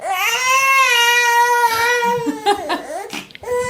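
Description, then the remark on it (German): A newborn baby son wails loudly in one long, sustained cry, then breaks into shorter choppy sobs and gasps toward the end. “wollte ich nur mal kurz das Schreien unseres Sohnes zeigen.”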